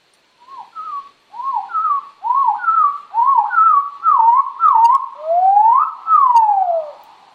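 A chestnut-sided warbler song slowed down five times: a steady run of low, slurred whistled notes that quicken slightly, ending in a long rising-then-falling swoop, clear and alone.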